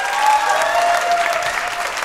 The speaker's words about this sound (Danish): Giv en stor hånd til Thomas Mørk!